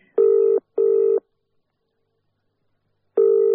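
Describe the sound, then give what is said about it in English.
A telephone call being placed as a woman rings her husband: loud, buzzing electronic tones on the line, two short bursts close together, a pause of silence, then another burst, with no talking. “I will ring my husband and tell him I'm on my way home.”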